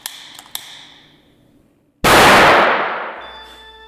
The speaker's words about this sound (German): Aber wenn sie in einem Gasgemisch aufeinandertreffen, verhalten sich die beiden Elemente äußerst explosiv. Vorsicht! Wir erinnern uns an die Knallgasprobe aus dem Chemieunterricht.